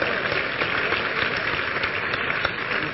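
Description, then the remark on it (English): A church audience breaks into sustained, loud applause for Jesus, a dense wash of many hands clapping at once with no talking, steady in volume throughout. “Will you clap for Jesus?”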